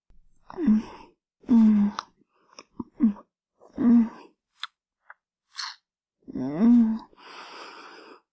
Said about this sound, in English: My tongue circling around your head. Warm and wet. My lips gently kissing your tip. Wrapping around your head. Sucking and slurping.